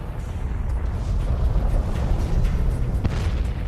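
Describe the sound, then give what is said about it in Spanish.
A deep, roaring sound effect of a type 2 supernova explosion, a sustained low rumble that swells and churns for several seconds, with a sharp crackling burst near the end and no voices. “La explosión de una supernova de tipo 2 arroja al universo elementos pesados, pero el núcleo de una estrella que explota permanece intacto.”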